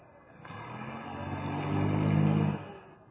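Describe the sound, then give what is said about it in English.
Carl Fortune's car engine hums as he comes home, then revs louder for a couple of seconds with a low, steady drone, before cutting off abruptly as the car pulls into a garage. No one speaks. “Sounds like Carl missed the garage slightly.”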